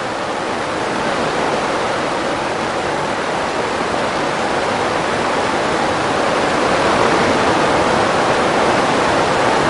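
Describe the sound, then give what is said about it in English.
Heavy rain pours in a dense, unbroken hiss, loud and steady for the whole stretch with no individual drops standing out and no voices. “No, the rain has heard me.”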